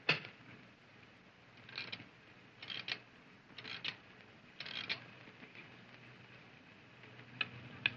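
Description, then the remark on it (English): A stopped clock is rewound with several ratcheting bursts of clicks, followed by a quieter stretch where faint, sharp ticks come through, running rather fast. No voices, and the sound is fairly soft. “By your clock, Gabriel, but it seems to have stopped. So it has. It needs rewinding.”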